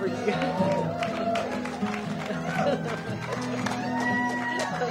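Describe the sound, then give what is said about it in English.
An audience claps and cheers steadily for an 89-year-old performer, a dense wash of hand claps mixed with overlapping voices and calls, loud and sustained for the whole stretch without dying away. “I get that kind of applause.”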